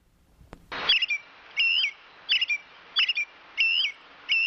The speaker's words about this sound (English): Who said robin? That's a robin. Now listen, you hear the song, and then you hear... Okay, this is important. The song is what the male robin sings to announce that he has a nest available, or he's available, or his babies have hatched